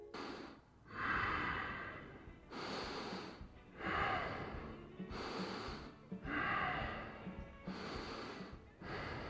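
Heavy breathing in a steady rhythm, about five noisy breath cycles with a rough, snorting edge on each inhale and exhale, and no talking.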